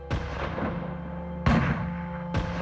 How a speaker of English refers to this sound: Gunshots split the sea salt-tinged air of the Fondo Riella.